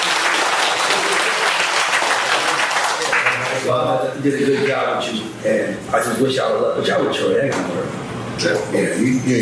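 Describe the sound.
An audience bursts into steady, loud applause, a dense wash of many hands clapping; after a few seconds a voice begins talking while the clapping carries on underneath.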